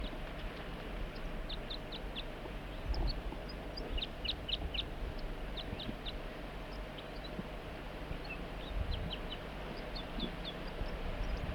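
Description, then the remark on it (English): A wild bird calls repeatedly in short bursts of thin, high-pitched chirps, three or four notes at a time, over a steady low rumble of background noise. No one speaks. “Start recording the wild bird and 4-3.”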